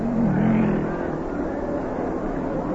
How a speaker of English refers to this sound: Well, there he goes. Now, the cars will light up as they go around the track, and they'll fall in behind the lead car. And then, if they get the go-ahead flag, as they pass the judges' stand, we'll have a start.